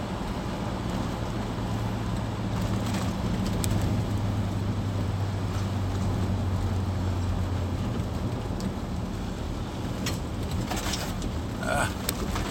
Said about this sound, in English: And, oh, here's the big trucks again.